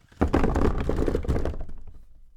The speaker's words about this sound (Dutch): Hij draaide sneller en sneller. 1 keer, 2 keer, 3 keer, 4 keer, 5. Tot hij uiteindelijk, met een luide knal, tegen een tafel botste.